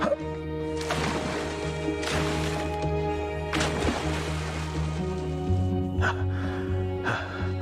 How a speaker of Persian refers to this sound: چند بار دیگه باید بپرم تو آب؟